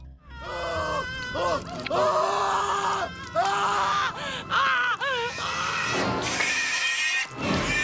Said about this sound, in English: The lieutenant screams in horror as the screeching, sharp-toothed baby emerges from beneath Tiffany's dress and attacks him.